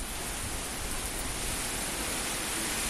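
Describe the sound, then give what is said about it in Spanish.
Heavy rain pours down on the city of A Coruña in a steady, dense, loud hiss that fills the whole stretch evenly, with no pauses, gusts or voices. “Sin duda es que ha vuelto la lluvia.”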